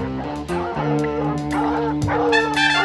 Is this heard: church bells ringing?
no